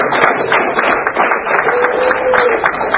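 A room full of people clapping together, a dense, steady patter of many hands sustained for several seconds at strong volume, with a brief voice or hum faintly under the applause.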